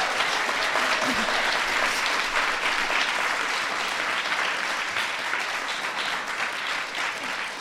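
A large audience applauds steadily, a dense, sustained wash of clapping that holds at a loud, even level for several seconds without any speech over it.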